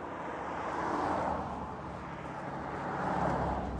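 Steady roadside traffic roar, swelling twice as cars pass by, a broad rushing noise with no voices.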